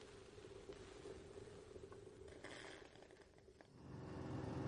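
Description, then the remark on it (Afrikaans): A steady, low engine drone hums throughout, like a car heard from inside while driving, with the rumble swelling louder toward the end. No one speaks. “Ek hoop nie jy gee omdat ons met my motor ry nie.”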